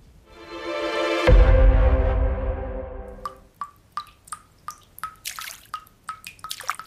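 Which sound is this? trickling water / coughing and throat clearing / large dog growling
trickling water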